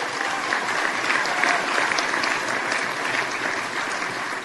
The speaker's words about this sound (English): I'd like to thank our business partners, the community of Six Nations, all of the territories that support us all the way through. And I think that also deserves a round of applause.